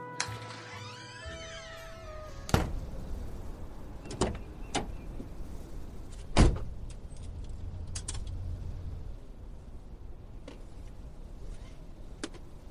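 Someone gets into their car, which has no winter tyres, on an icy, slippery day: keys jangle, a couple of sharp door thuds and clicks punctuate a steady low rumble, with a brief whirring slide near the start. No one speaks.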